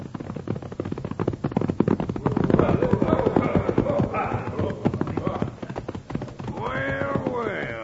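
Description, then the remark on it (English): Horse hooves clip-clop in a quick, steady rhythm, loud throughout, as a rider rides right up, with a rising whinny-like cry breaking in near the end. “He's going to ride right up to us, Bill.”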